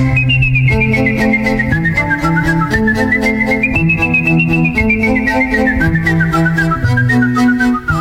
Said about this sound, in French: Alors, non, pour ce qui est de siffler, je fais le job.